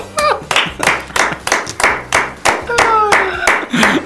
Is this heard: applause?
yes